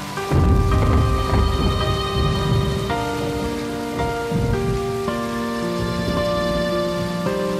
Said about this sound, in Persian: داره بارون میگیره.